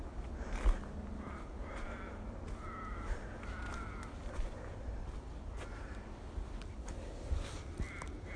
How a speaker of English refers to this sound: Well, I can hear a crow now. That's a bit inevitable, isn't it?